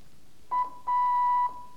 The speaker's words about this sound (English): carefully and learn the Morse alphabet, as this will be the base of your Morse studies. Letter A.